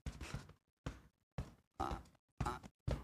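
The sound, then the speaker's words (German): Six dull, muffled thumps land in a steady rhythm as fists knock on a seated person's chest during a group warm-up. They are fairly soft, with short silent gaps between them and no talking. “Und das gemeinsame Warm-up sieht so aus, dass wir uns erstmal gerade hinsetzen und mit den Fäusten anfangen, vielleicht konntest du nur mit einer Hand auf die Brust zu klopfen.”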